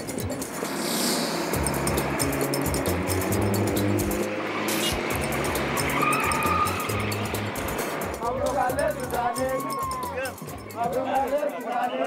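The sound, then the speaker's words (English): A taxi pushes through busy, chaotic city traffic in Khartoum, its engine rumbling steadily amid a dense wash of surrounding vehicles, with honking and indistinct voices rising toward the end. “But first, my taxi driver has to fight his way through Khartoum's chaotic traffic.”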